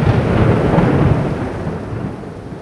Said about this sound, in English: On the morning we visited the center, a spectacular thunderstorm provided an appropriately Wagnerian backdrop.